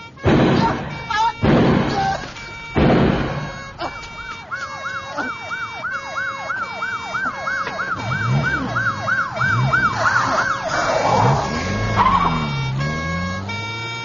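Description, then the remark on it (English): A wailing police car siren rises and falls in rapid repeated cycles, growing louder as the police car approaches, preceded by a few sharp loud bangs, with engine rumble and some speech underneath. “Oh, Jesus, it's the cops.”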